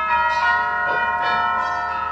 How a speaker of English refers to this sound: McGee, that's the new set of bells in the church down the block.